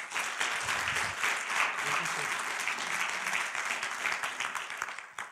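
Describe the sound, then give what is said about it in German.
A crowd applauds steadily for several seconds to welcome a speaker before his talk, a dense wash of many hands clapping at a fairly loud, even level before tapering off slightly at the end. “Einen ganz herzlichen Applaus”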